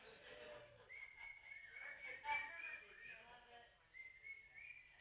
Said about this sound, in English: Who's whistling? That was good stuff.